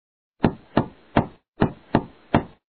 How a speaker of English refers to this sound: Listen, someone is knocking at the door.